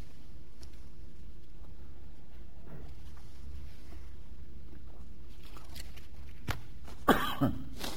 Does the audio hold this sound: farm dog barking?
no